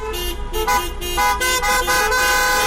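Many car horns honk at once in a loud, overlapping chorus of sustained blasts and short toots, sounded in the streets by people protesting in their own cars against a new education law, with a low rumble of traffic underneath and no talking.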